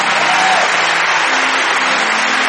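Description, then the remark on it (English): An audience claps their hands in a dense, continuous wash of applause, steady and loud throughout, with a few faint tonal voices or hums threading underneath, as people come forward from all over the building, including down from the balcony. “Come on, give them a hand clap as they come from all over this building.”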